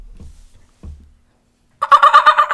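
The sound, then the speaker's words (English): A voice imitates a seal with a loud, rapid warbling call lasting under a second, coming after two soft low thumps and a brief silence. “Make the sound of seal makes.”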